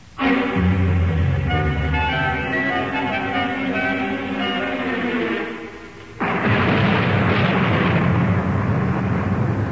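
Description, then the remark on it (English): A thunderstorm: sustained, droning tones hold for several seconds, then a sudden loud crash of thunder breaks in and rumbles on steadily to the end. No one speaks. “First there's this dreadful storm, and then the Reverend Patton's expected almost any moment.”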